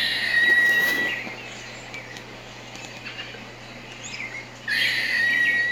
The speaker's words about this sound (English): We've covered this one before. A lot of people wonder what bird that is. That is not a bird. That is a squirrel. That's the gray squirrel, a.k.a. the cat squirrel. Crudely sounds like he's meowing